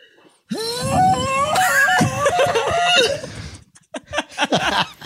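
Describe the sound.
A voice imitates an ancient sea glass conch announcement tube, giving one loud, sustained blast of about three seconds with a wavering, warbling pitch, followed by a few short breathy bursts.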